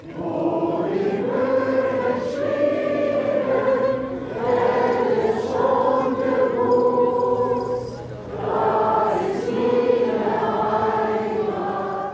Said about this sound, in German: Ja, da hören wir vielleicht mal in das hinein, was immer wieder hier im Land zu hören ist, das Ostseewellenlied. Ein populäres plattdeutsches Heimatlied, welches ja hier das ganz nahe Meer besingt.